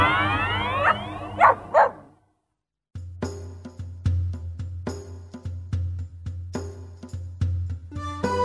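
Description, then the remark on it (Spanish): A dog barks repeatedly in a quick, steady rhythm, loud, after a brief burst of sweeping, whistly tones and a short pause of silence. “En eso se acerca otro gato repitiendo: ¡Guau, guau!”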